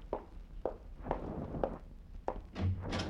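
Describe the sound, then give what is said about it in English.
Five or six steady footsteps thud across a floor at an even walking pace, followed by a door being opened for an arriving visitor with a brief rattle and creak. No one speaks. “Open the door for him, Burton.”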